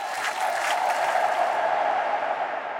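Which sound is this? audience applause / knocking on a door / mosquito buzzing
audience applause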